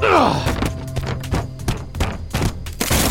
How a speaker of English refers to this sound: We hit the first corner of the stairs with a thud. We wrestled more until we rolled down the next section.